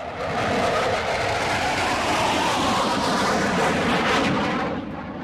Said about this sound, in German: Der Knallkrebs ist gerade mal so groß wie ein kleiner Finger, kann aber richtig Radau machen, sagt verrückte …. Der ist sogar so laut, also wenn das außerhalb des Wassers wäre, wäre das lauter als ein Düsenjet.